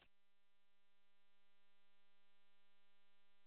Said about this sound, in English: Yeah, some white noise. Not bad.